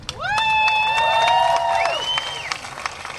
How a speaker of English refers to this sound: Many tears have been shed here tonight for the 20 who aren't here and for the great loss this community has suffered. But there have also been songs of celebration and there have been cheers. There's nothing like El Paso.